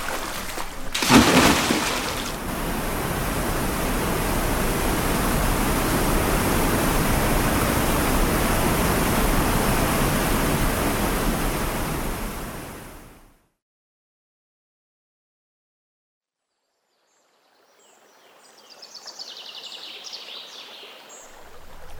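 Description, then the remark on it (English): A loud, steady rush of flowing water from the River Wey fills the first half, then stops abruptly into silence before a softer water sound returns with faint high chirps. “It was the River Wey. This is the bloody Star, for God's sake.”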